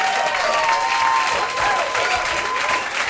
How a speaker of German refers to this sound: Hier kommt ein Applaus!